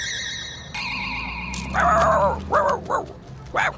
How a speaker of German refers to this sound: und wer ist das? Der Hund unserer Nachbarin.